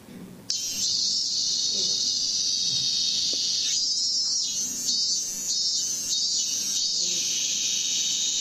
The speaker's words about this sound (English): Are you guys familiar with that? Yes, that's right. It's a cicada. Okay, it's a type of, it almost looks like a cockroach with wings. And they make this sound. And there are many different varieties of these in Japan.